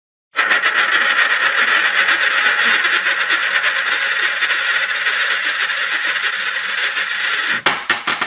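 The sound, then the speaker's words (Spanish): A coin is tossed for heads or tails and spins on a hard surface, giving a steady, bright metallic whirring and ringing for about seven seconds before it clatters abruptly to a stop. No one speaks. “¿Águila o sol? Sol. A ver, ¿qué gire?”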